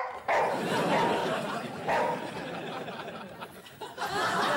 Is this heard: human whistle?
no